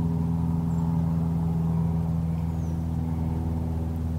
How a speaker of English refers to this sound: We've reached 7 o'clock on this special Earth Day. After the drone of the airplane engine fades away, the American robin's evening song begins to be heard.